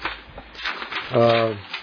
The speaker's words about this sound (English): As you hear the set list paper get flipped over